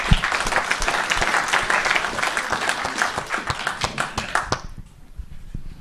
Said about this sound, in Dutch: En ja, dat is ook mede dankzij deze geweldige commissie. En ja, ik denk nogmaals gewoon een groot applaus daarvoor.